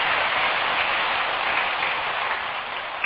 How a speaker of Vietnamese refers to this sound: Nếu làm được và thấy nó dễ, quý vị hãy dành một tràng pháo tay để cam kết nó.